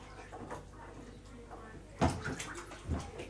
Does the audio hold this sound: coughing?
no